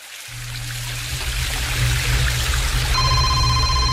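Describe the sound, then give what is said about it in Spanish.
Steady rushing water roars continuously, like a waterfall, with a low rumble underneath; near the end a high electronic ringing tone joins the dense wash of noise. “¿Y qué es ese sonido? ¿Es una cascada? Sí, una cascada.”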